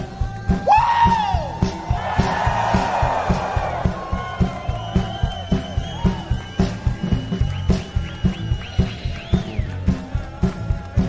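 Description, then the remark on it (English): A large crowd at the Glastonbury festival erupts in screams and whoops, loudest in the first few seconds, then thins out while a steady thumping beat pulses underneath. “Can we just scream real quick one time?”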